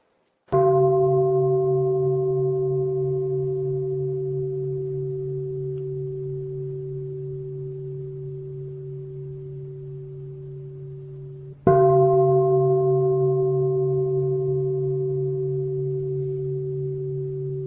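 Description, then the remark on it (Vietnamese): A meditation bell is struck twice, about eleven seconds apart, to open a Buddhist dharma talk on Diamond Island, District 2, Ho Chi Minh City, Vietnam, in 2014; each strike rings with a deep, steady hum that fades slowly into a long sustain. No voices. “Bây giờ kính mời đại chúng lắng nghe ba tiếng chuông.”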